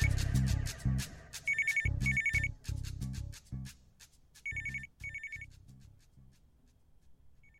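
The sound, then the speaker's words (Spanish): A telephone rings in repeated bursts, each a pair of bright trilling rings, over a thumping rhythmic background of low beats; the ringing is clear, with no one speaking. “¡Contesta! ¡Contesta! Si quieres escuchar qué pasa cuando Mariela contesta el teléfono”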